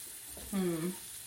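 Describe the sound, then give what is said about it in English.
Garlic fries in a pan on a simmer burner, with some bits already crunchy because the heat was a little too high at first. It sizzles with a steady, soft crackling hiss throughout, broken midway by a brief low tonal scrape or squeak lasting under half a second. “There's already some little bits of crunchy pieces in there cause I had it a little too high at first.”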